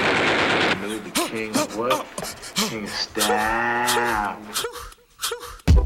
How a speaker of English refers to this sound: Oh no, I think I hear gunshots.